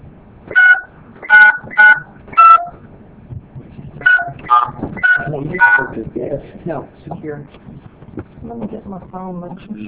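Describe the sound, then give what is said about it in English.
Phone keypad tones beep as an access code is entered: four quick, evenly spaced presses, a short pause, then another cluster of tones, followed by a voice speaking over a phone line. “You can your access code followed by the pound or hash sign.”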